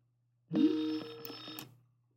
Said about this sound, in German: Und jetzt schauen wir mal, jetzt müsste eigentlich, Skype klingelt.